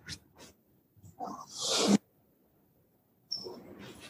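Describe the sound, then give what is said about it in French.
A door is opened to let a female dog in: a couple of soft clicks, then a rising rush of scraping noise that stops abruptly, a pause of quiet, and another burst of rustling noise. “Pardon, j'ouvre à ma chienne.”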